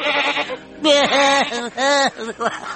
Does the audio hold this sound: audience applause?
no